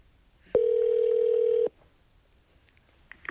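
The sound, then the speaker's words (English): A single loud, steady telephone tone sounds for about a second, like the ring of a long-distance call to the Cincinnati Zoo Cat Ambassador Program being connected, then cuts off into near silence. “Please stay on the line while your call is completed.”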